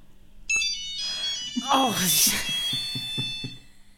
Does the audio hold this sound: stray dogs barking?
no